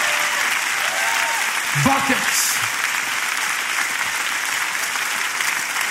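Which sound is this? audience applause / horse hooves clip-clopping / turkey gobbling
audience applause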